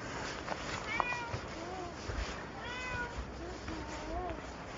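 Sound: cat meowing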